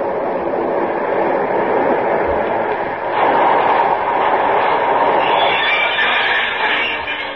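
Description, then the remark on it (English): A six-car local train pulls in with a steady, loud rumbling roar and metallic hiss that swells partway through and holds, without a break, for several seconds. “Here comes the local.”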